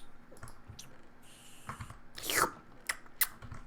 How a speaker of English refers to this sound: Quit slurping.